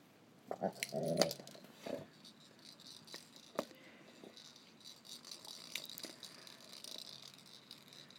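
A dog worries at a rattling rubbery ball toy it is struggling and failing to destroy, a loud burst of shaking rattles early on, then scattered sharp clicks and rattles against quiet.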